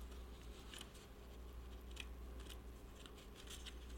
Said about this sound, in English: Boy, this paper is sticky. Cannot get it apart. Okay, it's like the brand new dollars.